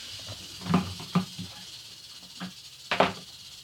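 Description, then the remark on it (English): A taipan snake hisses with a steady, airy breath, broken by about four sharper, louder bursts spaced irregularly over a few seconds, with faint low thumps beneath and no talking. “Taipan's good. Yeah, but it's a nasty son of a bitch.”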